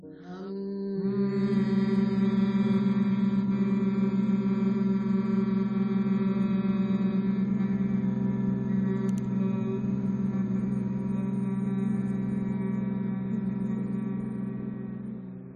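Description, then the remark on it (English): A person hums one long, steady, low note during a breathing exercise, the first of a series of four hums. It starts after a brief pause and holds evenly for about fourteen seconds before fading slightly at the end. The hum is clear, with no talking. “And we will now begin a series of four hums. Breathing in and hum.”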